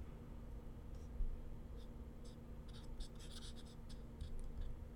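A pen scratches across paper in short, irregular strokes as someone writes characters, growing busier toward the end, fairly quiet over a steady low hum, with no talking.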